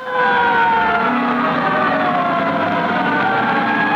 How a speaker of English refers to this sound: Fire sirens shattered the relative early morning calm of the South Bronx section of New York City a week ago Sunday. The firemen arrived at a social club to find it completely in flames.